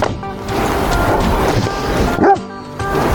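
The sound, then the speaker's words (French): At a market gardener's farm in Bédouès, several dogs bark and yip excitedly in a busy overlapping burst greeting an arriving visitor. A brief high whine comes near the end, over a steady outdoor background. “accueilli par les chiens comme il se doit.”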